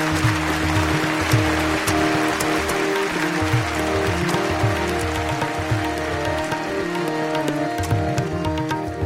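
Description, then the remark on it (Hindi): Fast, continuous tabla drumming, with steady loud strokes and low bass tones that bend in pitch, played over a sustained drone-like instrumental accompaniment. No one speaks. “हमारे जो तबला नवाज हैं आप इनको सुन ही रहे हैं, इनका कमाल यह है कि सारी रात तबला बजाएंगे और थकते नहीं।”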